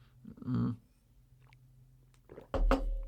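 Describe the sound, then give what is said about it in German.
Someone takes a sip of water: a brief slurping gulp, a stretch of soft mouth noises, then a louder clunk and rustle at the end, with no talking. “Jetzt muss ich mal einen Schluck Wasser kriegen hier.”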